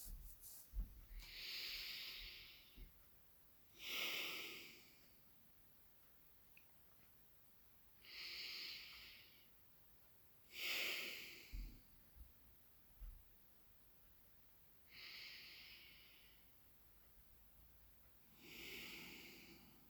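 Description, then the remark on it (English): Slow, deep breaths in a breathing exercise, with airy, hissing inhales and exhales, fairly loud, repeating in a steady cycle every few seconds with quiet pauses between, and no talking. “Continue to do this deep breathing and hold these three, this triangle, on the solar plexus for the next 3 minutes.”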